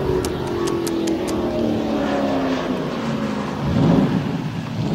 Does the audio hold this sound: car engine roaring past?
yes